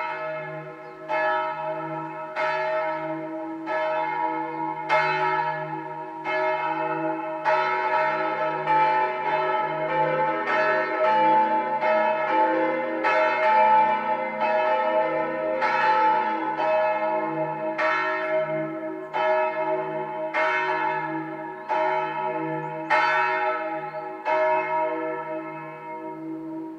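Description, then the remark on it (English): Church bells of a little chapel in a small village, a popular tourist destination, ring out in a steady, overlapping peal, several bells striking in turn with long resonant tones that hum and linger. The ringing is loud and continuous, with no voices. “there's a little chapel in this small village, but it's a popular tourism destination, so you're going to hear more than just the church bells.”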